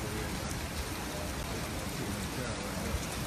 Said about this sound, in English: It's raining and I'm in screaming.